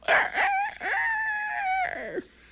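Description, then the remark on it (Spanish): A rooster crows once, loud: a short rising call, then a long held note that falls away at the end. No other sounds accompany it. “Y se mojó el gallo.”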